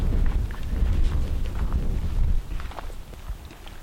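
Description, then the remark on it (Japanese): Strong wind at a large keyhole-shaped kofun burial mound beside a cosmos field in the Munakata area of Japan buffets the microphone with a loud, low rumble for about two seconds, then eases off, leaving softer gusts and scattered footsteps crunching along as the visitors walk on. “ちょっと風がちょっと強いですね今日は。”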